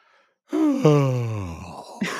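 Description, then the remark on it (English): A voice gives a long, open yawning sigh that swoops down in pitch and trails off, like a vocal warm-up, followed by a short breathy onset of another. “So you're going to want to try going, have a little bit more of that in your yawn.”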